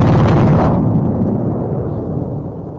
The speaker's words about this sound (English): For the first time, Afghan opposition forces rolled aging Soviet-made tanks onto ridges around the caves. They then began shelling al-Qaeda positions.